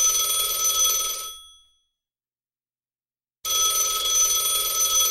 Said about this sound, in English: Phone's ringing. I don't pick up, right? I unplugged it. There's another phone. There's something unnerving about a phone ringing in that underground maze.